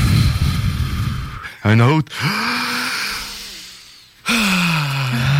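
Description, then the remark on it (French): Slow deep breaths during a guided breathing exercise, a long airy inhale followed by an extended exhale, with a few brief spoken words in between and another breath starting at the end. “On prend une grande respiration.”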